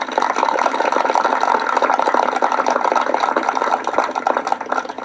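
A crowd at a ceremony honoring veterans in Liberty applauds the donors of the wreath stands, dense overlapping claps forming a continuous wash of sound that stays fairly loud for several seconds, with no voices standing out.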